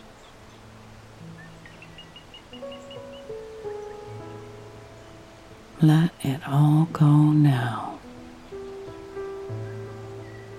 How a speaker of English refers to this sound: As you listen to the sound of the birds in the canopy and the sound of that beautiful waterfall